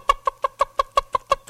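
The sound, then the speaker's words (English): A mother hen clucks to call her chicks in a rapid, steady series of about nine short, even, mid-pitched clucks at a moderate volume, with no talking over them. “Mama calls for the biddies.”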